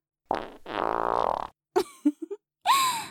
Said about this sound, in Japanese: 私のお尻から、おならがブリブリ。こういういおならが、あなたの鼻孔に注ぎ込まれていくわ。一発屁を切るたびに、体、痙攣しちゃってるじゃない。まさかこんな強烈なおならが残ってるなんて、思っても見なかったでしょ?